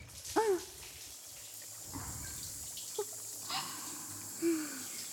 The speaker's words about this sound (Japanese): はい、プロデューサー、シャワーかけるよ。